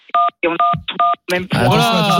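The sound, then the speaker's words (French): A few crisp, steady keypad beeps from pressed keyboard keys sound in quick succession, each a short two-tone chirp, before a person starts talking over a busier background. “ton clavier. Attention à ton clavier”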